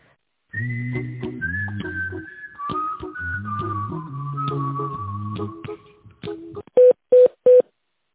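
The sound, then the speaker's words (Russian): A tinkly melodic tune plays on a company phone line's automated menu, then stops and is followed by three short, loud telephone keypad beeps in a quick, even sequence, as an employee's extension number is dialed. “Пожалуйста, дождитесь ответа оператора или наберите добавочный номер сотрудника.”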